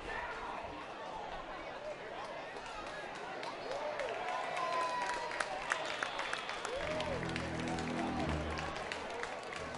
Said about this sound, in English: Crowd beginning to pick up some volume.